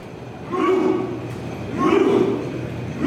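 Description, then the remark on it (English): Norway fans on their way to a World Cup stadium, riding backwards on their butts up a station escalator, chant the classic Norwegian Viking Row cheer: two loud, rhythmic collective shouts, each swelling and falling away, spaced just over a second apart over a steady background hum. “A group of Norway fans riding up a station escalator backwards on their butts, doing a classic Norwegian cheer called the Viking Row, which looks exactly what it sounds like.”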